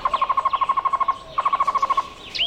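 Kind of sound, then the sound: bird, cuban trogon (tocororo) song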